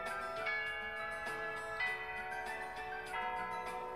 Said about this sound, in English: The bell rings to mark the beginning of afternoon classes. I'm saved. Lunch is over. Listen, the bell is ringing.